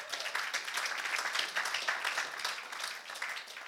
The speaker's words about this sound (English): Are we making sense today? Can you give the Lord a clap offering?